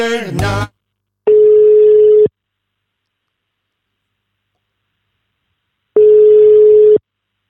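A phone line's ringback tone sounds while a call is placed to an ambulance colleague in Friesland, in summer: two steady, mid-pitched one-second beeps separated by a long silent gap, loud and alone after a brief sound at the start.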